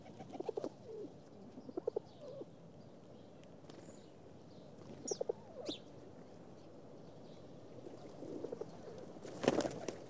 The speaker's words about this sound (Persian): گاهی کبوترهای عاشقم روی درخت نغمه عشق می خوندن.